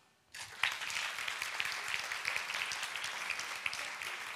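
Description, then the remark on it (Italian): After a brief silence, an audience breaks into applause for La Vecchia Nizza as a vote among three contestants: a dense, steady wash of many hands clapping at once, holding at a fairly loud level for several seconds with no voices. “Un applauso per La Vecchia Nizza.”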